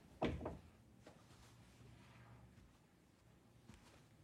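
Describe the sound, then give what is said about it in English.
A bedroom door is shut with a solid, low thud near the start, followed by a quiet stretch with faint rustling and a soft click later on. Nobody speaks. “Julie shuts the door.”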